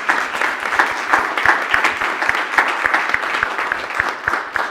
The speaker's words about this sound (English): Now a round of applause for everybody.